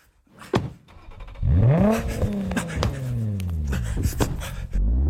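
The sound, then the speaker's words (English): A car engine revs hard and accelerates as the driver is about to do a 180 reverse entry, its pitch sweeping up and then sliding down as it strains, loud, with a few sharp clicks and knocks around it. “Hold on, I'm about to hit a 180 reverse entry.”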